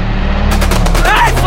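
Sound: gunfire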